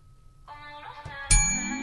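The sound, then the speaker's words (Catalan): A small hand bell is struck once, sharply, its bright metallic ring hanging in the air, with a softer tonal chime sounding just before it. It is rung to answer in a song-guessing quiz game. No one speaks. “I doncs, per dir-ho el cantant o la cançó, li heu de donar a vosaltres el pulsador i vosaltres a la campaneta.”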